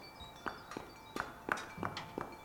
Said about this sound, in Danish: løber hen over brostenene i gården, og han er lige ved at løbe ind i en mand med en trillebør.